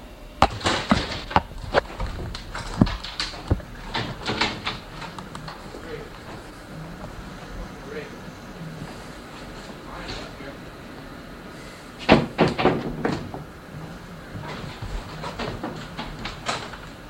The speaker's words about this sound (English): Great, bust the door, man. That's great. I didn't bust any door. Yeah, you didn't bust the door? Look at this. I didn't bust the door. You just busted it. I didn't do that. You just did that when you slammed the door. And I did not do that.